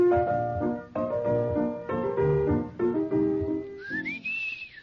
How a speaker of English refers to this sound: I didn't sing it. I whistled it. That's Tales of Vienna Woods. Yes. By? Johann Strauss.